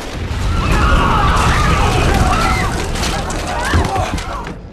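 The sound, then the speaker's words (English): A loud, rumbling explosion of a detonated device in the West Wing of the White House roars through the scene, its deep low boom sustained with crackling debris, while sirens wail and muffled voices sound underneath. “Vice President, there's been an explosion at the White House.”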